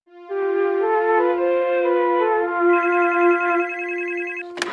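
A telephone rings with a loud, steady electronic tone for several seconds, shifting slightly in pitch, then cuts off with a sharp click as if picked up.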